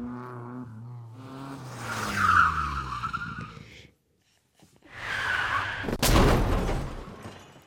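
A race car engine whines down in pitch, then tires screech loudly in two long skids, ending in a sharp, heavy crash with noisy rumbling afterward. No one speaks.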